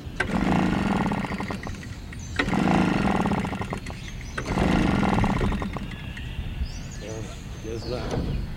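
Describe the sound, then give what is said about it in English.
A gasoline-powered leaf blower that is acting up sputters in three loud, rough bursts that surge and fade, followed by a thin rising whine as it struggles to stay running. “His gasoline-powered leaf blower is acting up today”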